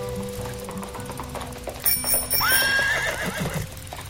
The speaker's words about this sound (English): a horse and buggy carriage came out of nowhere, almost clipping DJ Jeffy Jeff off the road